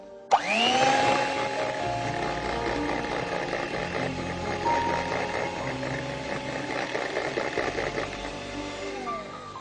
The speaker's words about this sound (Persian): مواد رویش بوده 80 گرم کره، 3 قاشق سوپخوری پودر قند، 1/4 قاشق چای خوری وانیل. این رو با همزن برقی خوب میزنیم.